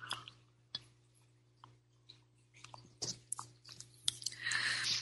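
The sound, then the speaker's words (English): Someone sips tea from a cup: soft clinks and small mouth clicks, then a breathy slurping draw near the end. Quiet and intimate, with no talking. “I'm going to take a sip of my tea here.”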